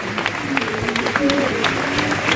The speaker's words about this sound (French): Salué par des applaudissements et une Marseillaise.